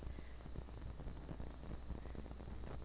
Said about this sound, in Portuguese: É o horário, deve ser de alarme, né?